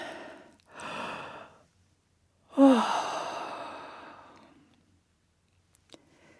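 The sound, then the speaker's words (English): Two short breaths, then a long, loud yawn with a brief voiced groan at the start that trails off into a fading exhale, followed by faint clicks, as a person yawns while coming out of a relaxation exercise. “And yawn.”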